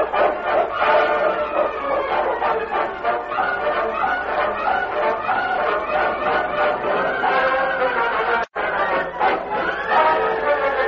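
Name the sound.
crowd commotion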